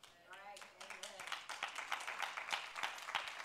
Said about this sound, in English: That's like a golf clap going. I don't know if I ought to clap on that.